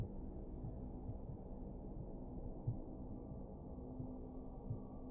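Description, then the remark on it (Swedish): Muffled, low heartbeat thumps pulse slowly and steadily in the ears, slowly fading, beneath a dull, droning hum, soft and indistinct. “Du hör fortfarande hjärtslagen i dina öron, men de försvinner långsamt.”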